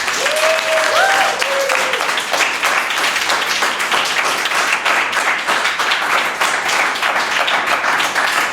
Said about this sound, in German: Nicht nur online, sondern auch hier live vor Ort. Und damit die Zuhörer sich unseres Podcasts da mal so ein bisschen Eindruck verschaffen können, bitte ich jetzt mal das Publikum hier vor Ort um einen Applaus, damit man einen Eindruck bekommt.